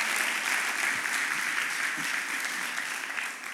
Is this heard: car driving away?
no